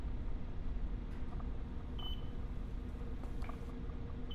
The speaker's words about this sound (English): Richard is alerted by the radar as it begins beeping and indicates two vessels approaching the ship